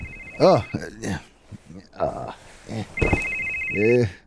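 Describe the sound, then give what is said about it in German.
A mobile phone rings with a steady electronic tone in two bursts, clear, while people talk over and between the rings; the call comes from an unknown number. “Ist das schon wieder deine Mama? Das bist du, Mann. Ich? Das ist dein Handy.”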